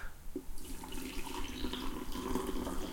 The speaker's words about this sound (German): Das Geräusch ist einfach nur mega geil. Das, also, einen frischen Kaffee einschenken, eine feine Sache.